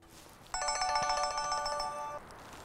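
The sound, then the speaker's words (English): A cell phone ringtone plays a bright electronic melody of quick repeated notes for about a second and a half, loud, then cuts off, leaving faint background hiss; an incoming call at remote Holmes Lake. “Somehow, despite its remoteness, Holmes Lake has great cell phone reception.”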